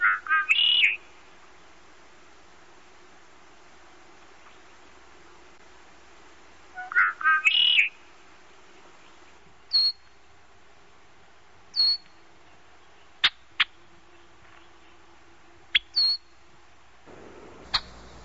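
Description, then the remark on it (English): Red-winged blackbird calls from a marsh in the Bulkley Valley: two bursts of buzzy, wavering whistled notes, then a series of short, sharp check notes spaced a second or two apart, clear over a quiet background. “Here are typical calls, whistled notes, and some check sounds from a marsh in the Bulkley Valley.”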